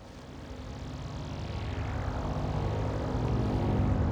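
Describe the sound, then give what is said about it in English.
A vehicle engine drones steadily while being driven through the desert, a continuous low rumble with a broad rushing hiss that slowly grows louder and fuller over a few seconds, with no voices. “During this time, there was no light available to the lenses, and the only recorded sounds were the vehicle's engine and a dog breathing loudly.”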